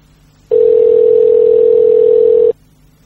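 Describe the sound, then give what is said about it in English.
A single steady telephone ring tone on a payphone line, as heard by a caller waiting on the line, sounds clearly for about two seconds, then stops. No voices. “Not too many people like picking up payphones.”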